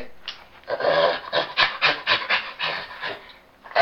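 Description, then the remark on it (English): A chimpanzee pants in a quick rhythmic series of breathy, hoarse bursts that swell and fade, then rise again into a louder call at the end, fairly loud. “It is a chimpanzee.”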